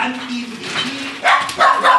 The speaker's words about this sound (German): Aus. Oh, dieser Nachbarshund. Hör auf zu bellen